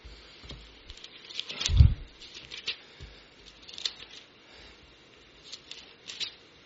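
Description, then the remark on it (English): Pages of a Bible being turned from the Psalms toward Psalm 150: soft papery rustles and flicks come in a loose sequence, with one heavier handling thump early on, and no talking. “Turn the pages, I'm turning the pages.”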